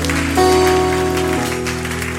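Audience applause fills the room as a steady, dense clatter of many hands, with sustained organ-like musical tones ringing underneath throughout.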